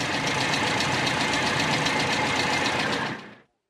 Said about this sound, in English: At that moment, a motor car with servants drove up to the Emporium.